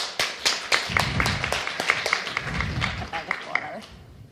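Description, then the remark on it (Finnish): An audience claps for presenters from the Ruralia Institute of the University of Helsinki, with a steady patter of many hands filling several seconds before thinning out, along with some low murmuring in the background. “Annetaan heille aplodit.”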